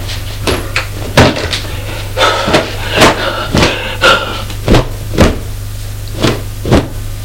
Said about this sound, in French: Il ouvrait les portes de son placard. De son armoire.